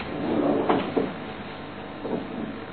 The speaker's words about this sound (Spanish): acallados los rumores de las sillas que en el Tortoni se mueven solas.